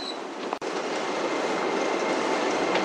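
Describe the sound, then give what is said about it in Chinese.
A steady, loud roar of a Subway Line 10 train running through a tunnel from Beitucheng toward Anzhenmen station, broad rumbling noise with a brief sharp click near the start and no voices. “欢迎乘坐地铁十号线列车，列车运行前方是安贞门站，下车的乘客请提前做好准备。”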